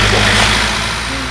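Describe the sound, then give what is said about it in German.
A van's engine rumbles loudly, a steady low droning hum with a broad hiss on top, holding fairly even before easing slightly toward the end, as the van with its lights on drives from a parking lot straight toward the listeners. “Der Wagen kommt direkt auf uns zu.”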